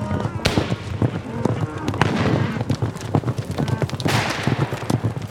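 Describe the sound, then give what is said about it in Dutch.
Many horses gallop in a dense, rapid drumming of hooves as cattle rustlers ride in from all sides, loud throughout, with indistinct shouts and voices mixed into the commotion. “Ineens komen van alle kanten veedieven.”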